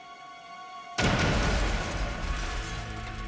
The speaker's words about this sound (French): L'explosion blessa gravement l'assistant et fit exploser les tympans de McConnell.